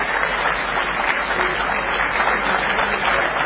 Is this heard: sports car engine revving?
no